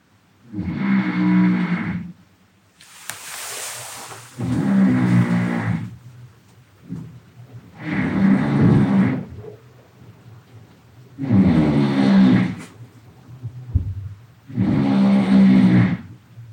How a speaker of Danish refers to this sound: Det er vildt. Det er satme en høj snorken,